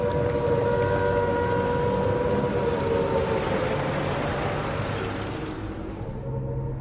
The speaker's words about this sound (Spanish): Momentos antes de anunciarse la guerra, las sirenas empezaron a sonar en Londres.